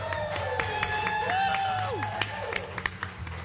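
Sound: audience clapping and cheering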